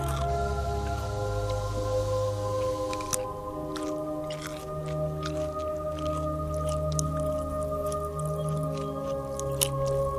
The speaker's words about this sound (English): Heston Blumenthal munching a gherkin.